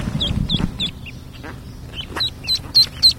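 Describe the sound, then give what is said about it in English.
A hen duck whose eggs have just hatched, in the backyard of a mobile home, quacks in a quick series of short, sharp calls, several in a row with brief gaps, over a low outdoor rumble. “At our next stop, we found a duck in the backyard of a mobile home, and her eggs had just hatched.”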